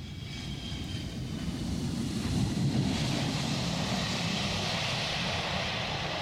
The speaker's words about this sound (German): Auch wenn der Blick immer noch gen Himmel geht, wenn eines der wenigen Tourismusflugzeuge im Landeanflug das Wellengeräusch unterminiert